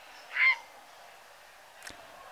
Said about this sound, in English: So heronries exist, and they can be quite noisy and they're argumentative sort of birds when they're near each other, and they're always squawking. And it's certainly not a song, but just for continuity, we should play their sound or call.